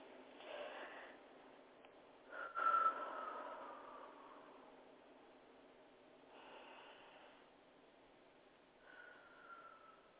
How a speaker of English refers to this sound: So let's take a few minutes and sit back, relax, get some nice deep breathing in.